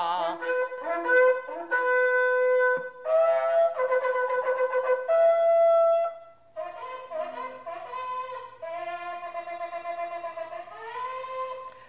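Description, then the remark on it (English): Shofar blasts ring out alone: loud, brassy horn notes sounded in broken segments, then a run of quicker wavering notes, the shevarim and teruah calls, with no talking. “They listen to the shofar and they can close their eyes and say, this is the same sound I heard 10 years ago, 15 years ago, 20 years ago.”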